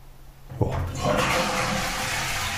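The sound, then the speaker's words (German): Rain patters steadily against a window, a dense, continuous hiss of drops that swells in abruptly after a quiet low hum and stays fairly loud, with no voices. “Ich habe nur dieses am Fenster, dieses Plattern gehört.”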